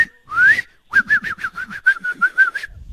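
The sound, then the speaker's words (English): A person whistles a memorized bird call: a rising swoop, then a quick run of about ten short, evenly pulsed chirps at a steady pitch, fairly loud with no talking. “I've memorized bird calls. Like, I'll be like, oh my God. That's Laser Bird. Laser Bird goes.”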